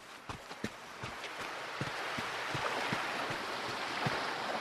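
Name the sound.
sea waves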